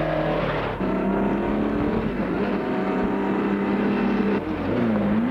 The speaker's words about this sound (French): Coup, elle est réveillée par un bruit de moto. Qui passe devant elle.